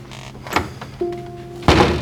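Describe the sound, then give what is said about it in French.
A woman leaving a classroom closes the door: a light click, a short steady whine, then a solid, heavy thud as it shuts. No voices. “Elle hoche la tête doucement, jette un dernier coup d'œil à sa classe, puis sort en refermant la porte.”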